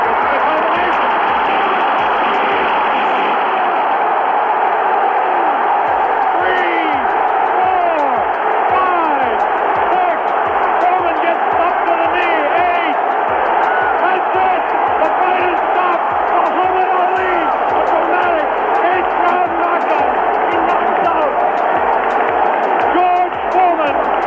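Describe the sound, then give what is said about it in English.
A packed boxing arena erupts in a loud, sustained roar as Muhammad Ali knocks out George Foreman in the 8th round of the 1974 Rumble in the Jungle. The cheering and shouting hold steady throughout, with a muffled, old-broadcast quality and voices blended into the din. “Yeah, Muhammad Ali knocking out George Foreman in that 8th round in 1974.”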